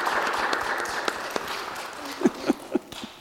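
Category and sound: crowd, audience applause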